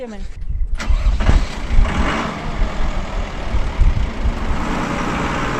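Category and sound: vehicle, tractor engine running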